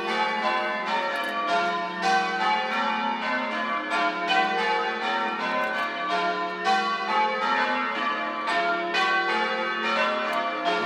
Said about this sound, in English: I think we can just stand out here for a little bit and listen to the bells together.